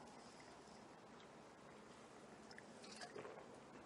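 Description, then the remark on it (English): Someone drinks water, with soft wet swallowing and mouth sounds over a steady low background hiss, a bit louder toward the end. No one speaks. “I didn't time that. I was just really thirsty.”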